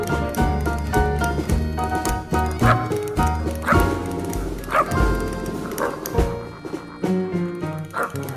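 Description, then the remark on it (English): Over a loud, steady music track, a voice imitates a dog, producing repeated sharp bark-like woofs at irregular intervals that blend into the instruments. “Did you hear me barking on that? That was actually my trained Barker barking on that show.”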